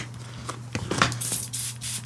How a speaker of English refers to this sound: Listen, you've got something to spray as well, look.